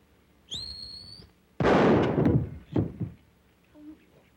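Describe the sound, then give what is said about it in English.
A short, high whistle rises and holds for under a second, followed by a loud, crashing burst and a couple of fainter thuds. “This is no time to whistle.”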